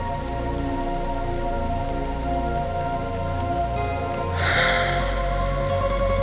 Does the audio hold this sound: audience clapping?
no